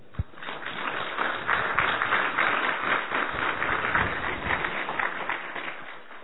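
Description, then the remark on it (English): Sustained applause from a crowd clapping in welcome at a question-and-answer session, a dense, even patter of many hands clapping at steady loudness for several seconds, with no voices standing out above it. “You can clap.”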